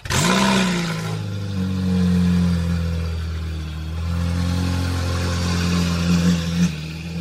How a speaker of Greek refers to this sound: Λάντσια Στράτος.